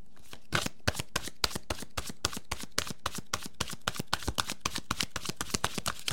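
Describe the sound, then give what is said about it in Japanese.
Tarot cards being shuffled and one card drawn, the Nine of Pentacles: a quick, steady run of crisp papery snaps repeating for several seconds with no voices, just the cards slapping together in an even rhythm. “今日はタロットからね、1枚カードを引いてみましたが”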